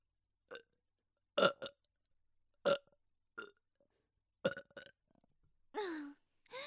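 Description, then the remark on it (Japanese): Several short burps come one after another at uneven intervals, some in quick pairs, followed by a longer, drawn-out breathy burp at the end. “なんでゲップ。”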